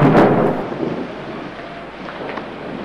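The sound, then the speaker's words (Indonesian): A loud crack of thunder opens in the late afternoon under dark clouds, then rolls into a fading rumble over a steady hiss of heavy rain and strong wind. No voices are heard. “Suara petir menggeligar.”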